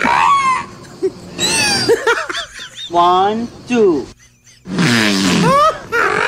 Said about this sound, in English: It sounds like the whale farts and then gags because of his own fart.